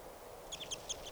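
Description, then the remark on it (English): A quick run of high, thin chitters from one of a group of four birds being captured, with birds on the ground and up a tree: four or five short chirps in rapid succession over a soft background hiss. “Chitter about one of the birds.”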